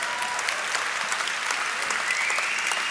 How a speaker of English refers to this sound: Let's first of all clap it up for all the youngsters in the room.